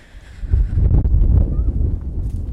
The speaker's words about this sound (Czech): Tady ono toho fouká vítr, možná bychom se mohli jít schovat takhle za roh, jestli tam bude foukat méně.